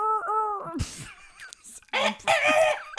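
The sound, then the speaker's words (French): A person imitates a dinosaur by vocally imitating a bird, with a wavering, rooster-like crowing call followed by a few loud, raspy squawks. “Donc, si on veut imiter un dinosaure, imiter un oiseau, c'est sûrement ce qui s'en rapproche le plus.”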